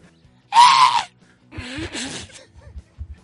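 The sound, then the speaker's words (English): A voice imitates a short, shrill scream, one loud high-pitched burst lasting about half a second, followed by brief breathy vocal sounds and soft thumps. “But I think if you caught him slipping, he'll scream like a girl.”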